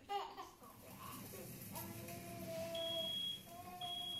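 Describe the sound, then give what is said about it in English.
A smoke alarm sounds with shrill, high-pitched electronic tones over a low background murmur, the alarm steady and fairly faint, during a WCCO test of smoke alarms. “WCCO's … put smoke alarms to the test, and what she found prompted a Minnesota fire marshal to change what he has in his own home.”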